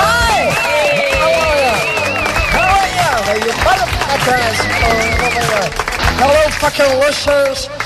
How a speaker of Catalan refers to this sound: Precisament per això, per animar els perdedors de la loteria, ens visita i la rebem amb un fort aplaudiment, Shiny Rosita Jones.